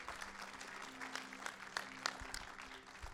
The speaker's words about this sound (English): Give Jesus a clap right now.